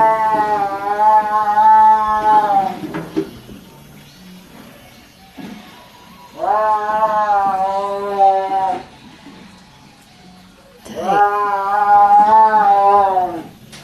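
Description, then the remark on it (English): A caged tiger under an old tent at a fair yowls three times, each call a loud, drawn-out, wavering cry lasting a few seconds, with short quiet pauses between them and no talking. “Have you ever heard a tiger yowl?”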